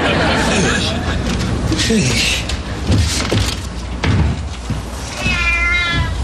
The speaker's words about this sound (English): Hey there, Fiorella, you rotten cat. Is that cat back yet?